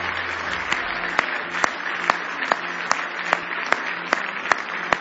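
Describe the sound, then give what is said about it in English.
A large audience at a church service claps hands in praise of the Lord, a dense wash of applause punctuated by steady, rhythmic unison claps about twice a second, loud and sustained throughout. “Give the Lord another big hand clap of praise.”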